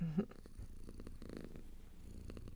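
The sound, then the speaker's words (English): A person softly imitates a cat's purr with a steady, low rumbling vibration that keeps going for a couple of seconds. “No words, just purr for me. Like this.”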